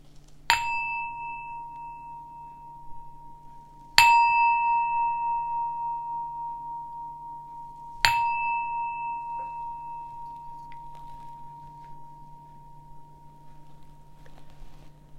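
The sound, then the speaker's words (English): A meditation bell is struck three times at even intervals to start a mindfulness practice, each clear metallic tone ringing out and slowly fading before the next strike, with a low steady hum in the background. “So I'm going to ring a bell 3 times to help us start our mindfulness practice.”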